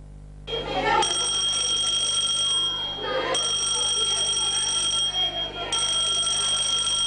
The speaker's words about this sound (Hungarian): Az iskolai csengő nem csak a szünetet, hanem a bajt is jelezheti. Ebben a Balmazújvárosi iskolában egy tűzriasztást szimuláltak, hogy be tudják mutatni a tanulóknak, mi a teendő ebben az esetben.